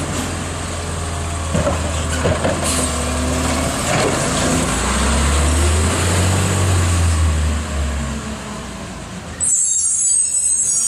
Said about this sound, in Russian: Вот так работает мусорная машина. Она с утра проезжает, раз туда, закинула себе и пошла дальше.